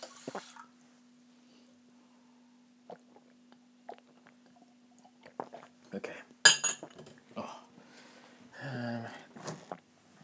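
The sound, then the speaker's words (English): Bright clinks and knocks of glass and hard tableware, scattered in short bursts, as someone gets water to drink, followed by a pouring, gulping rush and a few more taps against a quiet, steady hum. “Let's have some water because I'm dying of thirst.”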